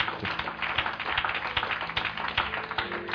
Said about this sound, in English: Praise his name. You can clap your hands. He's worthy to be praised.